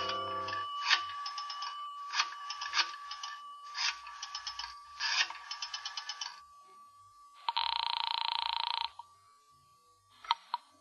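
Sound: telephone ringing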